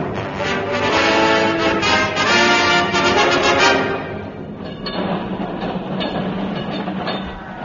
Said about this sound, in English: And as I stand here on the great pavement, there goes the last tram. That was the last tram.